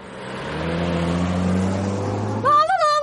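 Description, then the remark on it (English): A car engine drones steadily, its low hum swelling slightly as the car drives along, before a brief wavering, voice-like tone cuts in over it at the very end. “Just driving my car.”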